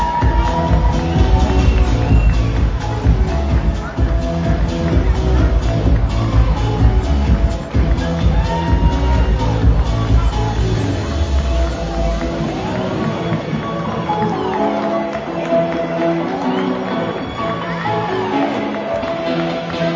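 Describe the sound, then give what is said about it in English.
A crowd applauds and cheers the League One York United FC Academy team loudly and steadily for the whole stretch, a dense wash of clapping with voices shouting over it and a heavy low rumble that fades about two-thirds through. “Let's give them a big, huge round of applause.”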